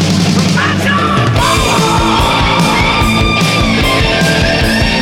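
A loud, sustained vocal scream rises over dense, distorted band music with pounding drums, holding high and strained for several seconds near the front of the mix.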